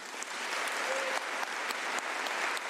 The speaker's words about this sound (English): Judging from the rousing applause at the end of her speech, the delegates appear to have given Margaret Chan an A for her work during the past 10 years.